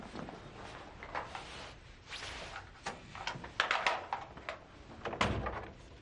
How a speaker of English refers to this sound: please open the door.